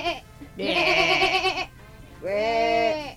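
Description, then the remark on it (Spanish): A sheep bleats twice, each call a loud, wavering, quavering cry about a second long, separated by a short pause, with no other sounds. “R la oveja.”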